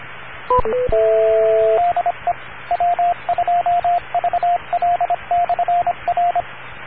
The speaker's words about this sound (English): Okay, I heard a beep there.